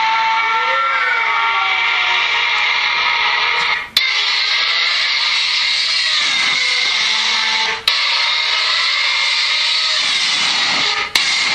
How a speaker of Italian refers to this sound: Adesso sentite qua, se non siete sulla macchina, ma vedete la macchina che passa.